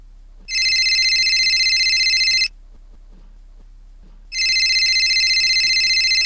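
A telephone rings in two long, bright electronic bursts about two seconds each, separated by a short quiet gap, loud with faint background noise between rings.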